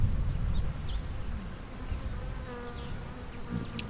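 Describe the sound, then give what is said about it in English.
A low, insect-like buzz of rapidly beating wings as a territorial male bird takes off to chase off other birds, with thin high whistling trills streaking over it as small birds dart in the chase. “Whereas he's, you know, taking off and chase off other birds like that right there.”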